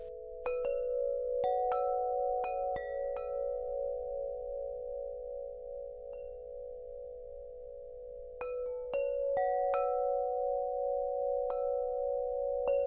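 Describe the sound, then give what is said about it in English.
Wind River wind chimes ring out in two clusters of bright metallic strikes, each note sustaining in a long, steady hum that layers into a shimmering chord, with a quiet pause between the clusters. “Gift them the mindfulness that comes along with these wind chimes, plant friends.”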